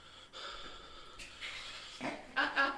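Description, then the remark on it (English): A person imitates heavy, raspy breathing, a series of breathy huffs and wheezy exhales that grow louder toward the end, with no words spoken. “It's breathing heavily at you.”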